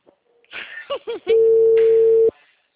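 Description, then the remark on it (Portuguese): A short burst of voice-like sounds, then a loud, steady telephone tone that holds for about a second and cuts off abruptly, like the busy tone after a call drops. “Chama no WhatsApp agora e fala, a ligação caiu.”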